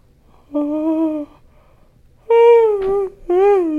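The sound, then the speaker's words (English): A big, drawn-out yawn with a voiced, moaning tone, heard as three strong bursts: a long steady groan, a pause, then a louder stretch that sags in pitch and a short final one. “That was a big yawn.”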